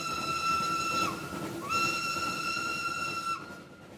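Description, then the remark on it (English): Two long, shrill blasts of a steam locomotive whistle, the second sliding up in pitch as it starts and dropping as it ends, with a steady hiss of steam running underneath throughout. “In 1883, the famous religious leader Te Kōti warned Māori to beware the whistling god of the Pākehā, a monster belching flames and smoke.”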